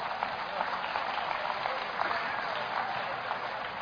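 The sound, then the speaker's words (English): An audience claps steadily, a dense, continuous patter of many hands at moderate volume that holds evenly for a few seconds without cheering or speech. “Come on, clap, clap, clap, clap, clap.”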